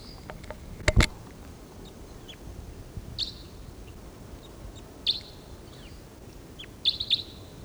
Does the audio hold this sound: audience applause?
no